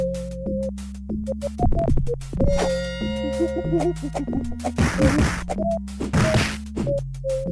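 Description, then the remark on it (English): Retro video game audio from a 1995 beat-'em-up game for the Sega Genesis and Super Nintendo, with chiptune-style music and repeated sharp punching hit effects, several thwacks landing in quick succession over the steady synthesized backing, loud. “Okay, that sounds like some punching.”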